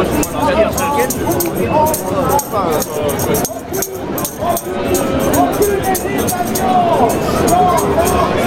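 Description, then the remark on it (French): A large protest crowd demonstrating against raising the retirement age to 64 murmurs steadily, dozens of overlapping voices blending into a dense, loud hubbub that barely dips for the whole stretch, with no single speaker standing out. “Il y a beaucoup de monde.”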